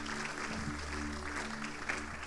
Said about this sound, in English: Go ahead and give him a clap offering. He's worthy.